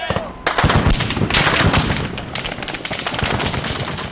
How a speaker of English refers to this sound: The troops opened fire with live ammunition, witnesses and medical workers said, and the avenue was soon filled with ambulances trying to collect the wounded.